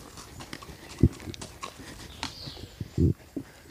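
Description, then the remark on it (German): Hooves of a ridden horse clop on a path in an uneven trotting rhythm, a handful of sharp thuds standing out against quiet outdoor background noise. “Nee, sonst einfach ruhig, dann hört man auch das Traben.”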